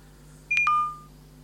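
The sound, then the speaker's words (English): A digital watch gives a single short hourly chime at 1 o'clock: two quick high electronic beeps, the second slightly lower, ringing briefly before fading, with a faint steady hum underneath and no talking. “Okay, we should be almost coming down to the time now, so we'll just see what it sounds like for 1 o'clock, i.e. just the time, the single chime, because it'll be 1 o'clock, and of course it'll be two chimes for 2 o'clock, etc.”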